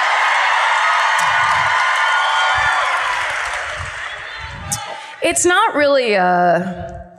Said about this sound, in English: See, they're applauding Drag Along, not for the murderer, but no. Because they want to hear Karen rip not this fucking least. Asshole apart.